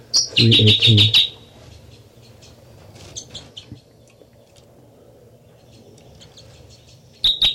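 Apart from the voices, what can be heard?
bird song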